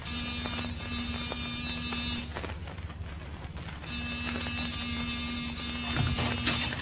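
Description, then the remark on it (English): A door buzzer, pressed by police in the middle of the night, sounds twice in long, steady blasts, a harsh electric drone at one constant low pitch, broken by a short pause of about a second and a half. “Give the buzzer a punch.”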